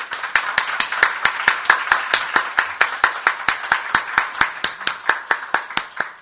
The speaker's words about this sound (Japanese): それでは私たちを歓迎してくださっている主に感謝の拍手を持って礼拝を始めたいと思います。ハレルヤ。